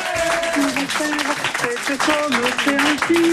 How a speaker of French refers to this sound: bravo, on t'applaudit, bravo.